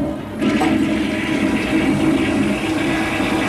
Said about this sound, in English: And I took the whole bloody bundle into the bathroom, and I flushed it down the toilet.